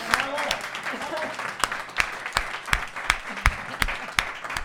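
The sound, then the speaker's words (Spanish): An audience applauds the drummer of a band, a steady patter of sharp claps with louder individual hand claps standing out, while a few voices murmur underneath throughout the short burst. “Na batería de …, imos dalle un aplauso, porque foi un tipo moi especial.”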